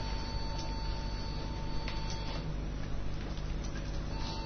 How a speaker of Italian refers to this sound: Oh, sento dei beep. Questa è poesia sonora di un computer che bippa.